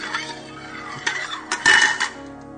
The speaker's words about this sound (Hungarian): Ez a hangja. Lábas. Lábas.